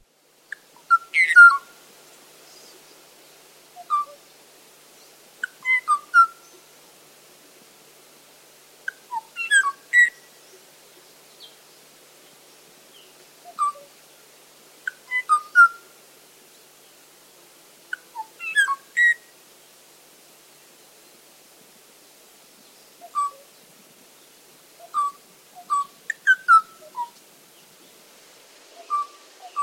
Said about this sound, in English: And that species went extinct from the island of Kauai in the mid-1980s. Wow. So this is a mating call with no answer from the Kauai o'o.